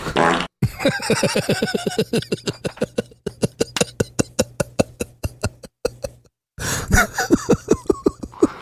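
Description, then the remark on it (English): A long, sputtering fart sound effect, played by pressing a soundboard button, rattles out in rapid, regular bursts, pausing briefly before a final wet flourish. It is loud and cartoonish, with no voices. “And then it took us billions of years to develop into being able to be like, Siege, press the fart button.”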